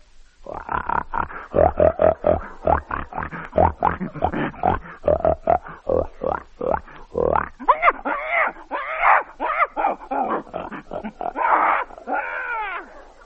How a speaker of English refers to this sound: A pig.